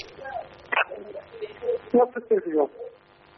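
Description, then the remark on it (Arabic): Muffled television sound bleeds through a caller's phone line from Iraq during a call-in broadcast: thin, band-limited voices and jumbled bursts of noise rise and fall for a few seconds, faint and boxy. “اسمعني من التليفون ووطي التلفزيون.”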